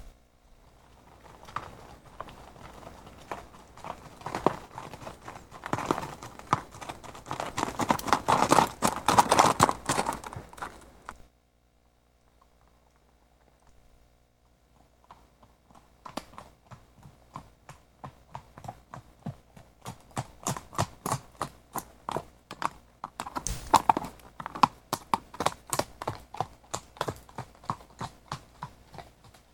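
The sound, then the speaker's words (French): Horses walking past with steady clip-clopping hooves, a dense run of hoofbeats, a brief lull, then another rhythmic stretch of clopping that stays clear. No talking. “C'est rien, c'est les chevaux qui passent.”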